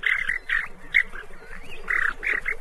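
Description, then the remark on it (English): Alarm calls of a western snowy plover, a small brownish shorebird of Pacific beaches: a rapid series of short, sharp chirps in clustered bursts, fairly loud, with a steady low rush of beach noise behind them. “When it sees a fox or a raven, it jumps up off the nest and makes a ruckus.”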